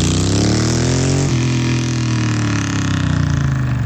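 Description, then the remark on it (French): A vintage motorcycle engine rumbles loudly, its revs rising, dropping suddenly partway through, then climbing again in a steady, throaty growl with no one speaking; one of the vintage custom café racers, bobbers and scramblers ridden at the DGR. “En réalité, ce sont des motos anciennes, des café racers, bobbers, scramblers, des motos customisées d'exception.”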